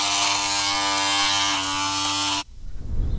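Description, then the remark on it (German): A steady electric razor shaving a beard off a face buzzes with a dense, even hum for about two and a half seconds, then cuts off abruptly, followed by a short rumbling, noisy rush of sound. “wir erstmal die Matte vom Gesicht rasieren, ne?”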